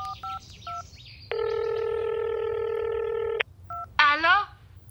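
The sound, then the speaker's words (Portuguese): A telephone call is dialed: a series of short keypad beeps, then a long steady tone, a few more quick beeps, and a voice beginning to speak at the end, all clear. “Vamos ligar para …, papá. Tenho o número dela no caderno.”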